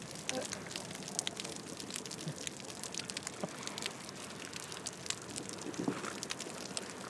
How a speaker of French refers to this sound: J'ai l'impression d'entendre la bouée. Que elle nage près de la bouée jaune et c'est comme si de l'eau tapait sur une bouée.